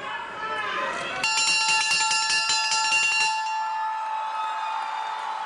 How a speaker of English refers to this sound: These apprentices are ringing a ship's bell during graduation ceremonies from the Apprentice School, as it's known.